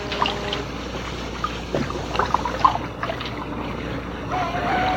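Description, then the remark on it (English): Gentle waves lapping and sloshing steadily against Griffin's Wharf in Boston harbor, where tea ships float, with small irregular splashes and a soft background wash, no voices. “A sleepy sentry leaned against a piling, listening to the lapping of the waves.”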